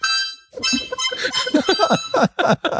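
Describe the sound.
A reedy party horn sounds a steady buzzing tone, then breaks into a string of wobbling, squeaky bursts that sag and sputter as its air slowly runs out.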